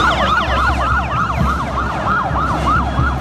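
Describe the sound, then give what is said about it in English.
Sirens of a set of police motorcycles wail in fast, overlapping up-and-down yelps, loud, over a steady low engine rumble, with no voices. “I mean, I'll say we have a set of police motorcycles.”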